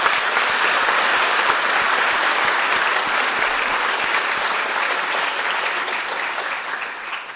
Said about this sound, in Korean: 우리 그분들 위해서 한번 박수를 주십시오.